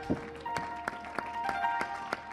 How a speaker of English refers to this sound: Well, I appreciate you seven people clapping your hands. Amen.